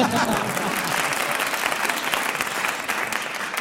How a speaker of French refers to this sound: Hey, vous pouvez applaudir quand je dis des trucs bien.